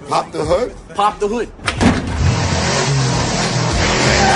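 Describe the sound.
After a brief stretch of talking, a loud car engine roars into a sustained rev with squealing tires, the noise holding steady until the end.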